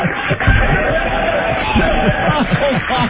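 A large crowd cheers and applauds in an echoing indoor mall as people on a homeless shopping spree walk through, a loud, steady roar of many overlapping voices that fills the whole stretch without letting up.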